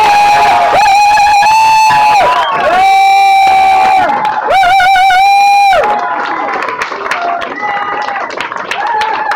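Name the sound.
audience applauding loudly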